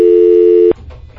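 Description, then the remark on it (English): A loud, steady telephone tone holds for under a second, then cuts off abruptly, leaving only faint background noise, as someone phones a caller back. No one speaks. “Phone her back and apologize.”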